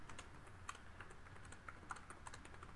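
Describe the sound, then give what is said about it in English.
Rapid, steady, furious clicking of computer keyboard keys in a quick, busy rhythm, with no one speaking, over a low background hum. “Are you furiously typing?”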